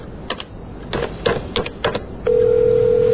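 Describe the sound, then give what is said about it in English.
Telephone sounds with no voices as someone places a phone call: a handful of sharp, uneven clicks like keys being pressed, then a steady, unbroken tone that holds clearly and fairly loudly to the end. “I think you can go back to our place and phone.”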